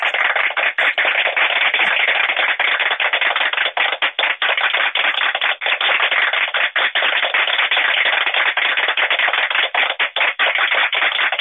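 A group applauds steadily for over ten seconds, a dense, even wash of many hands clapping with sharp individual claps poking through and no voices.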